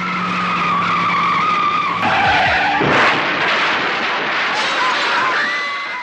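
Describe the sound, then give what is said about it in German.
A Mazda RX-7 speeds past at about 120 km/h with its engine roaring as its tires screech in a long, loud skid, with a sharp whooshing surge midway and the squeal trailing on afterward. “Mit 120 km/h pflügte er mit seinem Mazda RX-7 durch parkende Autos und in die Menge und hinterließ dabei eine Spur der Verwüstung.”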